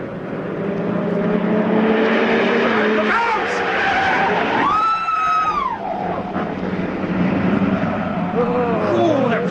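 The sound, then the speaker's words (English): A car speeds round a corner like a rocket without braking, its steady engine roar broken by a sharp, high tyre squeal that rises and falls for about a second. Loud rumbling traffic noise fills the whole clip. “He came round the corner like a flipping rocket. Never even put his blinking brakes on.”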